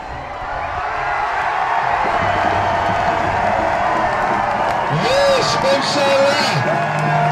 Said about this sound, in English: Cheers and chants on the streets of Israel celebrated the announcement of a new prime minister.